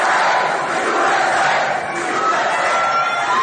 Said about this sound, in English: Cheering for him, just going crazy.